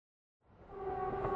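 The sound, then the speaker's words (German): After a brief silence, a low rumbling train-interior ambience fades in and swells steadily, with a faint steady tonal hum riding over the rolling noise, aboard a train travelling to Berlin. No one speaks. “Sie hören eine Durchsage im Zug.”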